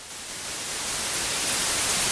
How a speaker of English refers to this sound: We know the best known of the noises is white noise, right? Mm. So let's hear a little bit of white noise right now.